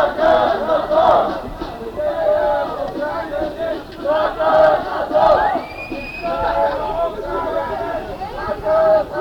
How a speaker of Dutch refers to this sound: De demonstratie bestaat uit jong en oud krakers. Actief of niet actief, maar in ieder geval solidair. Studentkrakers, voor alles en nog wat.